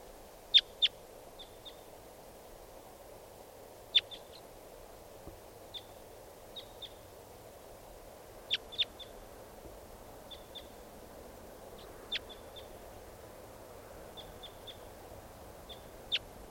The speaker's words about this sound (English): Start recording. Here's one of the birds.